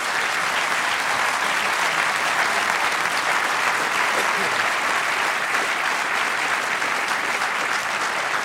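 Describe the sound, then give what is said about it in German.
A sustained round of audience applause, dense and steady, many hands clapping at once for several seconds with no voices breaking through. “Ich glaube, das war jetzt schon Ihr Applaus,”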